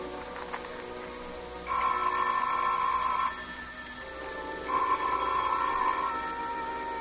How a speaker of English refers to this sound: The telephone sounded like it was ringing miles away.